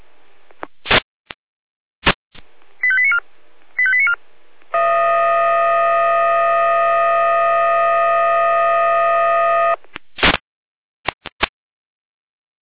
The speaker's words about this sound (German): Hier ist wieder Jena mit Einsatzalarm.